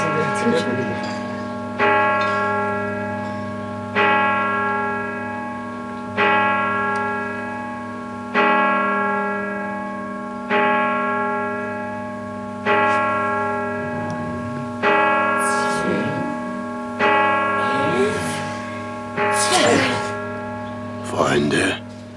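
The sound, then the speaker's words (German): A deep, resonant bell tolls twelve times, slowly and steadily, each strike ringing out about two seconds apart and humming on between blows, with faint murmuring voices creeping in toward the end. “12 Glockenschläge und die Helden von Peloria starren vor Angst.”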